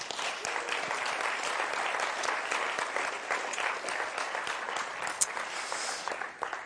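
An audience claps steadily for several seconds, a dense, sustained patter of many hands with no voices standing out above it, applauding three young men who graduated from a faith basics course, at a morning celebration.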